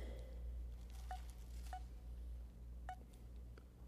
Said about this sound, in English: Now then, my phone just beeped, and it should not because I'd already turned it off, so I don't know what's going on here.